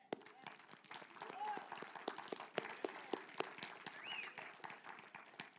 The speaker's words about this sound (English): And it deserves a clap offering.